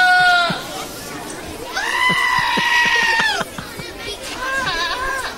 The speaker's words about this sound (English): It's got goats in it. Goats that are yelling.